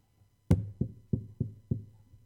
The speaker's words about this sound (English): I'm knocking. I'm pleading.